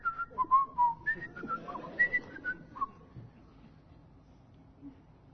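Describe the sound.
A person whistles a short, bright melody of quick notes that hop up and down in pitch for a few seconds, then stops, leaving only faint background noise.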